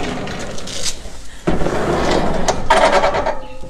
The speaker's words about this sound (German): Achtung, die Tür nochmal.